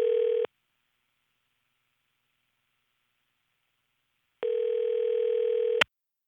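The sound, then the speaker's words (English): A steady electronic telephone tone sounds twice, a short burst and then a longer one after a silent pause of about four seconds, ending in a sharp click as a call is placed to an economics professor. “Let's get him on the phone.”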